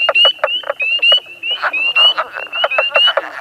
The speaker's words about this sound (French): Ah, les grenouilles! Voilà de petites bêtes fascinantes qui ont aussi besoin du marais. Ici, au lac Imbeau, on retrouve trois espèces différentes.